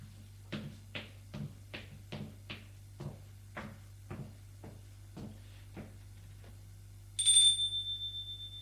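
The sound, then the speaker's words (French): A run of about a dozen soft, regular thuds gives way to a single bright, high doorbell chime at an apartment door that rings out and fades over a steady low hum, with no voices. “Il a sonné à la porte de l'appartement.”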